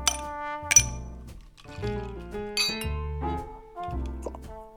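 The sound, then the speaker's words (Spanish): A gin and tonic being served into a glass, with a few bright glassy clinks ringing out over steady tonal notes and a repeating low bass, no voices present. “Los amontona, los vuelve a extender, 3 veces antes de que Margarita entre en la cocina y se sirva un gin tonic.”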